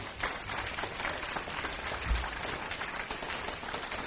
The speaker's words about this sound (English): Somebody wants to clap. Let's do that.